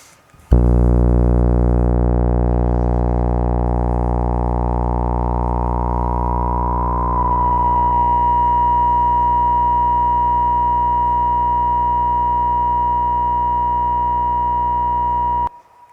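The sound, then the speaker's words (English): A steady, buzzy synth sawtooth drone holds for about fifteen seconds, with the filter resonance dial cranked almost to the top so a sharp resonant peak rings through it and drifts briefly midway, loud and alone with no voices. “So to show you what resonance sounds like, we'll crank up that resonance dial all the way to almost the top.”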